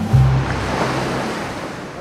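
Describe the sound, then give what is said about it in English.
Ocean surf at low tide rushes in a steady, broad hiss for two seconds, a continuous wash of breaking water with a brief low hum near the start and no voices. “It's low tide, so it's going to be a little crunchy, a little quick.”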